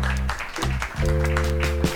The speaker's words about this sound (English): So I'd just like to see how many lovers we have in the audience tonight. Would all you lovers be kind enough as to clap your hands for me now? Let me hear you out there.